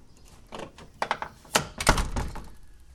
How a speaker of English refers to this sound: So let's slam this door.